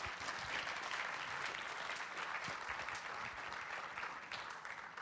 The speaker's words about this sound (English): Thanks, guys. Why don't you give these guys a round of applause?